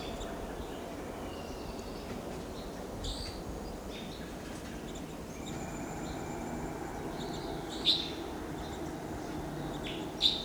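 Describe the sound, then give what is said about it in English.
Four to five wild Type 2 crossbills, together at the top of a lodgepole pine, give scattered short, high chip calls, with two sharper, louder notes near the end, all over a steady low rumble of background noise. No one speaks. “Wild birds are together at the top of a lodgepole pine here.”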